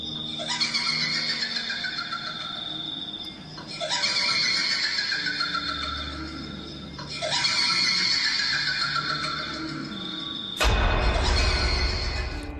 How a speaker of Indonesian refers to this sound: Suara mengilai yang lantang berdengung, katanya Leha, kedengaran dalam bilik hotel kami, Safwan. Bila ibu saya dengar suara mengilai, tak berani nak teruskan menunaikan solat asar, ibu saya lari keluar dari bilik.